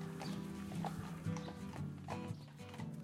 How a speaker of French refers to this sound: En fait, Radio Roulotte, c'est on veut faire de la radio dans une roulotte tirée par des chevaux de trait.